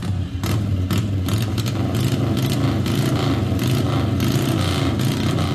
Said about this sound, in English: Other race engines are XR750 that we had for years and years.